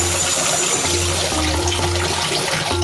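Water dripping and trickling steadily inside a hole against a constant low rumbling hum, a continuous wet ambience at even loudness with no one speaking.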